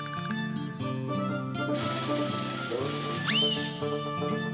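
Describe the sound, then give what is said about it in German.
A short, shrill horse neigh rises and falls once near the end as someone runs at the horse with a lance, cutting above lively, bouncy background music that plays throughout. “Pferde mögen es eigentlich auch nicht, wenn man mit einer Lanze auf sie zurennt.”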